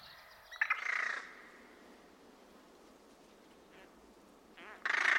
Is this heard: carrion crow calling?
yes